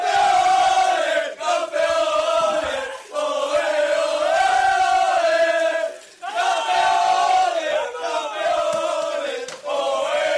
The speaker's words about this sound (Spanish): Y no me canso de escuchar, evidentemente, lo que han hecho estos chicos y este grito de campeones, campeones.